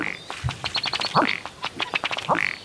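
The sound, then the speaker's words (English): A ruddy duck (Oxyura jamaicensis) calls, a run of quick dry ticking taps that speeds up, broken by a couple of short, throaty gulping croaks, with no voices. “On that cheerful note, let's move on to our next example, the ruddy duck, Oxyura jamaicensis.”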